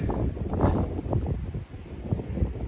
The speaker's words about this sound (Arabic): طيب إن شاء الله ما يضيعك، والله في هواء قوي.